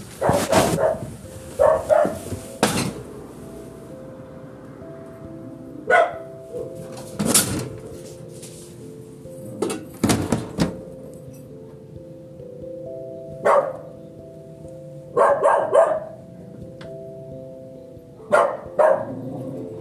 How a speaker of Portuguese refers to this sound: Cachorro chato. Ai. Então, pessoal, eu acho que eu vou atrasar um pouco, terminar a gravação, mas Eu vou tentar o máximo possível, porque agora esse cachorro ali não vai parar de latir de jeito nenhum.